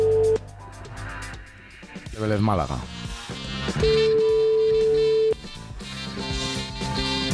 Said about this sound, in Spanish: porfa, coge el teléfono que te estamos llamando de la radio y de la tele.